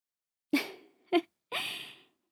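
A big yawn heard on its own, breathy and airy, broken into three bursts: a sharp intake, a brief catch, then a longer trailing exhale that fades out.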